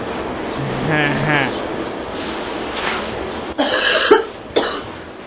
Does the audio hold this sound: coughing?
yes